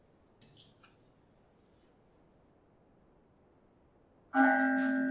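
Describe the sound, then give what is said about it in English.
After a stretch of quiet room tone, a meditation bell is struck once near the end, ringing out loud and clear with a sustained shimmering tone. A faint soft knock comes early; no one speaks. “So we end where we started, a ringing of the bell, which is a returning to that sacred space of now, to the breath within the breath, to that silence, where we get to know God and ourselves as one.”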